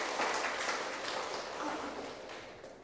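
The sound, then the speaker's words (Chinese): Warm applause from an audience welcoming the lecturer Venerable Chang Si (常思法师) to give a talk, a dense, steady patter of many hands clapping together that holds at an even, moderate level for the whole stretch, with no talking over it. “我们以热烈的掌声欢迎我们这一次的讲座的常思法师。”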